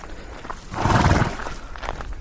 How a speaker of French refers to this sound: Trois chevaux qui broutent.